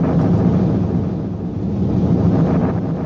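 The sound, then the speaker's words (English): A deep, continuous rumble of thunder rolls on steadily for a few seconds, loud and heavy in the low end, with a windy, blustery wash over it and no voices. “Looks like the thunder's sodded off as well.”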